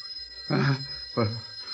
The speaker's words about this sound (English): Who'd call us? That fool phone hasn't rung in weeks.